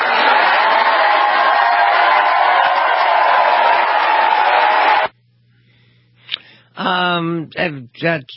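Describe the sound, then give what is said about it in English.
A loud, dense wall of crowd cheering and applause roars steadily for about five seconds, then cuts off abruptly, followed by a quiet pause and a voice speaking. “Cheering response.”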